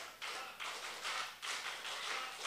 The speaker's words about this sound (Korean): 박수 11번 시작.